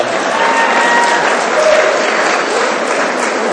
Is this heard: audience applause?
yes